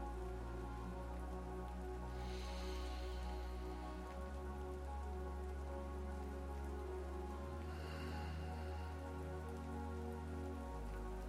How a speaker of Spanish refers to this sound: La lluvia me pone reflexivo. Me abraza y quisiera vivir con ese sonido en el fondo siempre.